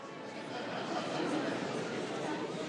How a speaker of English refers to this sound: Can you believe this crowd? So many proud parents.